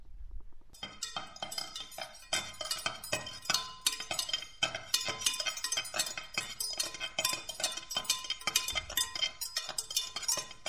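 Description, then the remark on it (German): Continuous metallic clattering of pots, pans and cutlery in a kitchen, with dense bright clinks and clanks in an irregular, busy rhythm throughout, steady and fairly loud with no voices. “Überall klapperten Töpfe und Pfannen und Besteck.”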